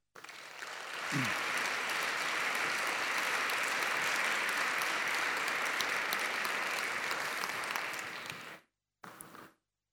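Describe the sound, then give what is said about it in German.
A crowd applauds to welcome Professor Götz Werner, author of the book Einkommen für alle, to speak; dense, steady clapping for about eight seconds, then it cuts off abruptly, followed by a brief final burst. No one speaks. “Meine Damen und Herren, und darüber wird er reden, herzlichen Applaus bitte für Professor Götz Werner.”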